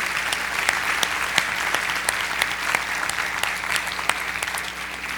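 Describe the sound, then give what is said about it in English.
An audience at a Sunday service applauds to celebrate the day, many hands clapping in a dense, even patter of sharp claps that holds at a moderate level throughout, with no talking over it. “So I invite us to to applaud and celebrate this day.”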